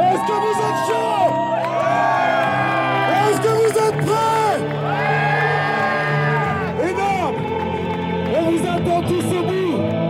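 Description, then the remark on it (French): A large crowd cheers and whoops continuously, many voices overlapping in rising and falling shouts, loud throughout with no pauses. “En 59 secondes, il a chauffé la foule, puis écoute, tenez le téléphone pour enregistrer.”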